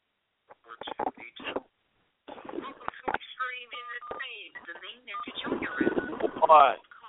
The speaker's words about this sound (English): What? Making that scratching noise. Oh, it's me doing it on my phone, sorry.